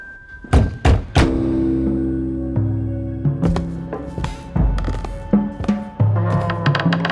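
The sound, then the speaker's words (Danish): Three firm, quick knocks on a door on a November day, then a steady musical passage of sustained tones with a few soft thumps. “Og en novemberdag banker det på døren til Odderhuset.”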